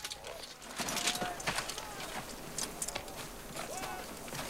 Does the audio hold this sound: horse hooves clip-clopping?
yes